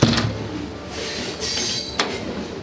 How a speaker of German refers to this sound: Langsam setzt sich der Zug in Bewegung, vorbei an Industriebetrieben, Kränen und Holzlagern. Dann verschwindet Vancouver hinter den Glaskuppeln und Panoramafenstern.